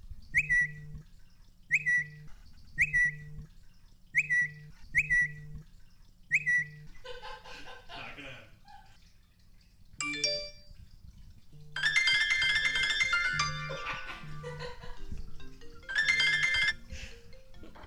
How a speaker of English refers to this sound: Watch, listen to this phone go off.